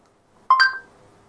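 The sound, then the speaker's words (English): A short electronic activation chime from the OK Google voice assistant on a phone: two quick ascending tonal beeps, bright and clear, sounding alone against faint background hiss. “I don't know about you, but I set loads of reminders on my phone using OK Google. Oh, look, it just activated.”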